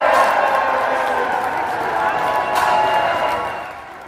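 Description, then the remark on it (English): A large crowd at Buffalo Niagara International Airport on a Sunday night roars and cheers steadily to salute combat veterans returning on an Honor Flight, a dense wall of voices and shouts holding loud throughout before easing slightly at the end. “The roar at Buffalo Niagara International Airport Sunday night rivaled the crowd at KeyBank Center.”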